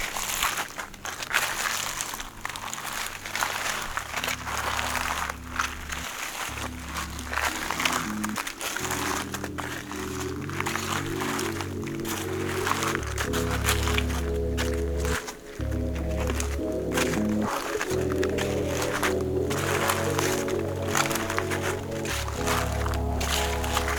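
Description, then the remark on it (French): Countless dry dead leaves covering thick woods of beech, chestnut and birch crackle and rustle continuously, a dense stream of brittle crunches layered over a steady, sustained musical backdrop with slowly shifting chords. “épais, couverts de hêtraies, de châtaigniers, de bouleaux, jonchés par ces innombrables feuilles mortes qui crépitent à l'assaut de vos oreilles.”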